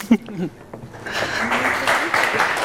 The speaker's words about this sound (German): Bühne frei für euch zwei und Ihnen viel Vergnügen. Danke. Ja. Applaus.